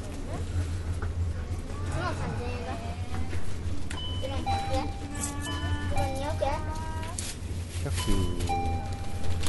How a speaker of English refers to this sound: First of all, the ringing you keep hearing is it makes that noise when somebody opens the front door, and every time it rings, the people who work in the store pretty much say without even realizing it, they say "Irashaimase,"